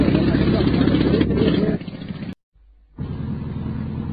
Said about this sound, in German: ja, sie lächeln sogar dabei, wie sie den Pressluftbohrer in die Erde bohren und einer schaute mich an und es war in seinem Gesicht zu lesen, ja, höre nur das Geräusch, ich mache es extra für dich, damit du es auch auf deinen Tonband bekommst.